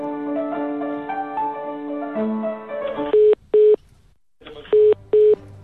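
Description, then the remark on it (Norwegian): A phone call to the deputy leader of a university college's student parliament rings out on the line: after a run of shifting electronic tones, two loud double-buzz rings sound, separated by a short silence, with no voices. “Våre mistanker ble bekreftet da vi ringte nestleder i studentparlamentet og gryende diktatorspire”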